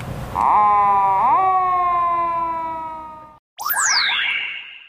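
A police car siren sounds loudly and alone, holding steady tones that slowly fade as if pulling away, then breaks briefly before a sweeping wail starts up again, as the car takes an arrested suspect to Kameari Police Station during a counter-terrorism drill at the Kanamachi water purification plant in Katsushika, Japan.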